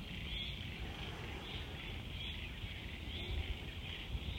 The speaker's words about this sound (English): Listen to the sound of the frogs calling and celebrating the present.